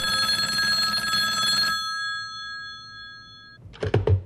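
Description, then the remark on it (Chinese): An old telephone bell rings loudly with a bright metallic jangle, cuts off and hums away, then the handset is picked up with a short clattering thunk. Nobody speaks. It is an urgent call received by a doctor in Lanzhou, China, in autumn 1941. “兰州的皮存德医生接到了一通紧急电话”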